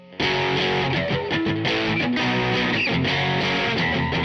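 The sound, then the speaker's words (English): A heavily distorted electric guitar plays a loud, gritty riff of chugging notes with a thick wash of overtones, sustained and driving for a few seconds with no voices. “For instance, I'll play a guitar riff cleanly with nothing on it. And now, notice the difference when we add the distortion, all the overtones to all these notes.”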